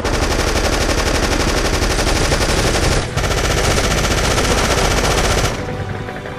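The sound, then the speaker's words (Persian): Sustained, rapid machine gun fire rattles on loudly and continuously, with a brief gap near the middle before the bursts resume, then thins slightly toward the end, as troops pour fire on a DShK machine gunner. No voices are heard. “خیلی خوب حرکت کنید، همه آتیش بریزن رو سر دوشکاچی.”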